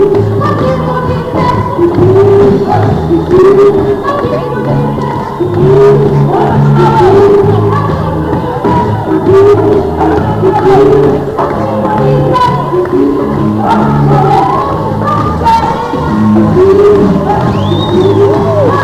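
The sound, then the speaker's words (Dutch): A dense, noisy street procession crowd with torches and banners fills the scene with continuous overlapping voices, calls and shouts, loud throughout, with a low rumble underneath like a slow-moving procession, as a truck slowly moves along and people lean out of windows and dance. “Nou, je hoort zelf wel hoe de sfeer is.”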